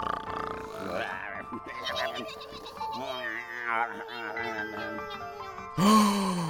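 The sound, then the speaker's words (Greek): Voices imitate snoring with a string of nasal grunts and groaning snorts, overlapping, ending in one louder, abrupt snort. “Καλέ, ακούστε το ροχαλιτό τους.”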